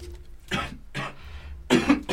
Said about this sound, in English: This cough is gonna do it to me, I think.